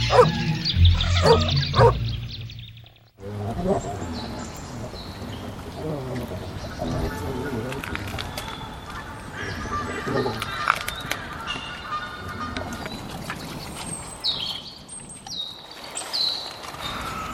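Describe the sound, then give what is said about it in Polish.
A wild boar grunts while eating, with a burst of loud, rough, low grunts in the first few seconds, then softer snuffling and chewing as birds chirp steadily in the background. “Dźwięk, który właśnie usłyszeliście, to odgłosy wydawane przez dzika podczas jedzenia.”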